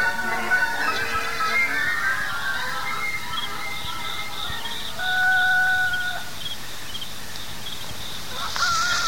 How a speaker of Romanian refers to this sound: Cocoșii vestesc miezul nopții.